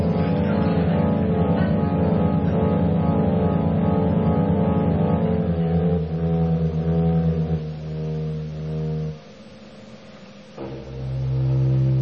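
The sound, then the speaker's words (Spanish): A car engine revs and strains steadily, its pitch wavering, then cuts off abruptly near the end before a deep, murky rumble swells back in as the car is driven into a swamp. “Metí el auto en el pantano y me olvidé de salir.”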